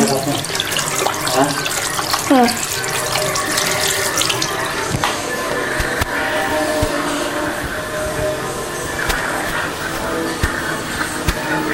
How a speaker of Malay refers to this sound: Tunggu deh aku mau cuci tangan.